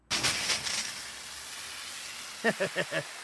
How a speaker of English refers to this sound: First, though, I've got a water pump fire extinguisher, and the nozzle fits right through the peephole. A couple of pumps and...